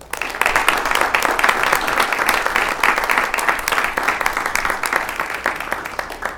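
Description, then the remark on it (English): An audience at a school district board meeting breaks into steady applause for their school, dense overlapping claps holding at a fairly loud, even level for several seconds with no voices on top. “And I'd like to, since we do have a crowd here tonight, offer a round of applause for our school.”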